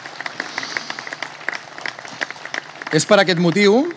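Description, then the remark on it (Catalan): An audience applauds, at a speaker's request, in honour of the people who have been or still are part of an organisation's long history, with a steady, dense patter of many hands clapping, moderately loud, before a single voice starts speaking over the last second. “Alguns d'ells avui estan aquí entre nosaltres, per tant, moltes gràcies, un fort aplaudiment, sisplau, per tots i totes.”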